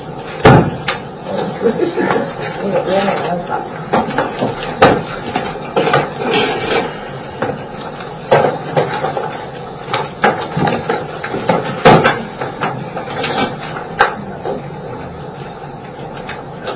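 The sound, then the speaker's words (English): A door opens and closes at a board meeting, producing a series of sharp clunks and thuds against a steady low background hum, with faint indistinct murmuring. “I believe this is the door.”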